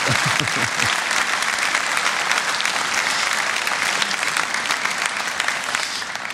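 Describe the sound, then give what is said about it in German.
Steady applause from a group in honour of Mother's Day, dense clapping at an even loudness throughout, with a brief murmur of voices at the very start before the clapping takes over. “Wir können an dieser Stelle auch schon mal einen Applaus geben anlässlich des Muttertages.”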